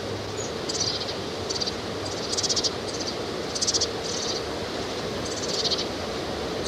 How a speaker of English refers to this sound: Birds are foraging pretty actively. The trees very close together. There's at least 7 birds here, and some of them are fluttering their wings as they're begging.